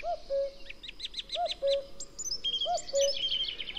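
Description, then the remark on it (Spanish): Birdsong fills a quiet spring ash woodland in the Lozoya Valley, Madrid, Spain: a chaffinch and a song thrush sing close by, with repeated bright phrases and rapid trills over a soft background of other birds. “Aquí más cerca un pinzón, un zorzal común, zorzal.”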